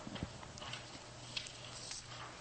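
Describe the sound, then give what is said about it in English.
A black horse's hooves clip-clop at an unhurried walk, a few distinct knocks spaced out over a low, steady rumble of background noise. No one speaks. “And I saw, and behold, a black horse.”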